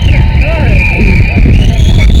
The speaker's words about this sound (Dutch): Wat een wind, mijn kind.